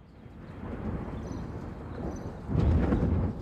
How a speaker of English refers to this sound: Did you hear that noise? Yes, I did. I think it was thunder.